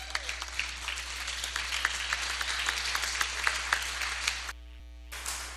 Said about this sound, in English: If you wouldn't mind giving them a nice round of applause.